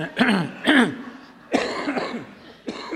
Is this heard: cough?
yes